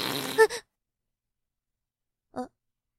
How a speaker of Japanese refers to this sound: あ、やべ、ええ出た。やだ、うんこじゃなくておなら出ちゃったじゃん。これはこれで恥ずかしいんですけど、おっさんの画面におなら吹きかけちゃったよ。